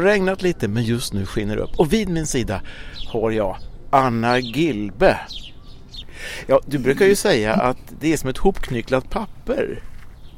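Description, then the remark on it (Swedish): Birds chirp faintly in the background outdoors at a small café in Rosendal's garden while two people talk in the foreground, their voices steady over the light, scattered tweets. “Och nu sitter jag på Rosendals trädgård på det lilla kaféet här och ni kan höra fåglarna i bakgrunden kvittra.”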